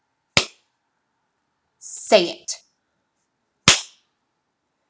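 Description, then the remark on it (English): Two sharp, loud slaps to a face crack out several seconds apart, each a single quick smack, with a short spoken phrase between them. “Having this cute little face of yours slapped.”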